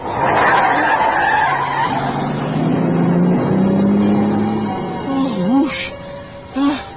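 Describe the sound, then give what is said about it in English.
A car on Interstate 70 swerves hard to avoid an oncoming truck after the driver dozes off at the wheel, with loud tire screeching and engine roar that lasts several seconds, then trails off into a couple of short, sharp squeals. “I must have dozed off at the wheel. Oh, honey, if you hadn't seen that truck.”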